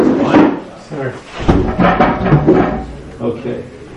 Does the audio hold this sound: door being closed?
yes